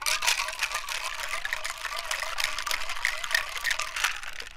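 A cocktail shaker holding martinis of gin, sake and maraschino liqueur being shaken hard and fast, ice rattling and sloshing in a steady, rapid churn for several seconds. The sound is bright and clattery and continues without anyone speaking.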